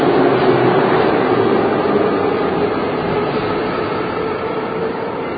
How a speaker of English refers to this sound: I also like how the doors open before the train stops.